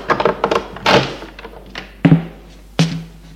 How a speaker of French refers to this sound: À 4h, Richard frappe à la porte pour prendre Xavier.